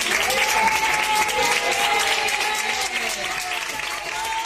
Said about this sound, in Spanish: ¿Y a quién van dedicados estos aplausos en esta ocasión? Bueno, pues a una paciente de 55 años que fue la primera que ingresó con coronavirus en la UCI del Hospital Regional de Málaga, en Carlos Saya.